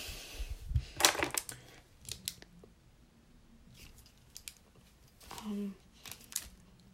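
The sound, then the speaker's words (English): Crisp paper rustling and crinkling in several bursts as water-soaked paper notes are handled, with a loud crumpling rush near the start and scattered softer handling noises afterward, plus a brief low murmur of voice. “God, for fuck's sake, my paper's ruined, and I can just... Alright, you know what? I could do this without notes. Actually, where's another piece of paper?”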